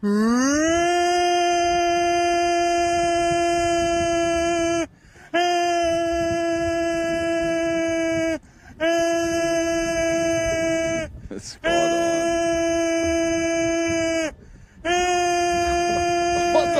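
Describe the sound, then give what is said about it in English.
A man imitates a foghorn with five long, loud, steady low blasts, each held for about three seconds and separated by brief pauses. “That's the best fucking foghorn I've ever heard in my life.”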